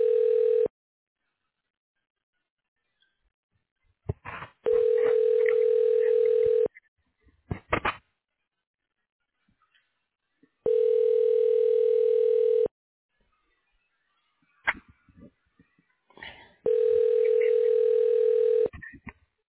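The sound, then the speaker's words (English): A telephone rings back in long, steady tones, four buzzy bursts about two seconds each separated by pauses, with faint clicks and line noise between rings, no talking, as a call to Ashland Health Center is transferred to the Radiology Director. “Let me transfer you over.”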